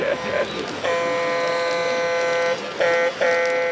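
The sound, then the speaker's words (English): The horn of a Lionel toy train, pressed by someone on a layout with three running Lionel train sets, honks in a steady, buzzy tone: two quick short toots, then a long held blast, followed by two more shorter blasts, over a low background hum. “You see him pressing the horn.”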